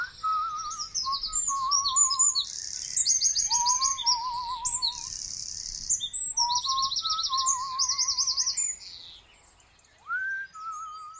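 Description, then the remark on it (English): A busy chorus of birds sings continuously, with bright, rapid chirps and trills layered over lower, warbling whistled phrases. The song is fairly loud, with no one talking. “He sits for a while, swinging his feet back and forth, whistling along to the birds.”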